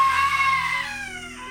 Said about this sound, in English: The air was heavy, and he heard screaming as if somebody was being tortured.